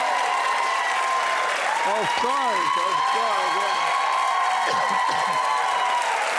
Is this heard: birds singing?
no